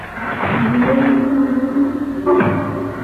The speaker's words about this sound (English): Then we heard the attic door beaten down.